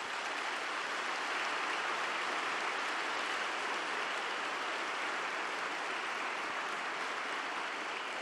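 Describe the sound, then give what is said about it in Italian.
A crowd applauds the nuns of Mother Teresa, who take in homeless people, for the whole stretch, a dense, even wash of many hands clapping at once with no voices breaking through and no lull in intensity. “Io vorrei che tutti noi facciamo una riconoscenza a Madre Teresa e a queste suore, tutti insieme, un applauso a queste suore brave.”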